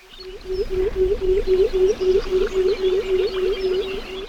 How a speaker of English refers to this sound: And this eerie hooting, which might conjure up the image of an owl at night, is actually the song of a pectoral sandpiper.